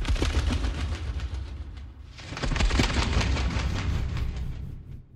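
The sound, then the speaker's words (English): Foley moth wings made with a sheet of toilet paper, for the trailer for Clarice: a dense, rapid papery fluttering over a heavy low rumble, dipping briefly midway before surging back louder and then tapering off. “Here are the moth wings in the trailer for Clarice.”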